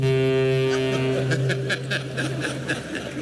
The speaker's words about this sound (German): 50 Außenminister in der Hafenstadt Hamburg und Gastgeber Frank-Walter Steinmeier als Kapitän auf der Brücke. Ein Nebelhorn, können wir es mal hören?